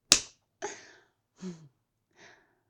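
A single sharp slap cracks out, followed by three short, muffled vocal noises like stifled whimpers from a gagged person, each fainter than the last.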